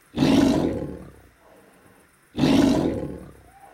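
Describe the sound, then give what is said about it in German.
A tiger roars twice, loud, each deep, rasping roar lasting about a second before trailing off, with a short quiet gap between them and no talking. “In der dritten Nacht kommt der Tiger aus dem Wald.”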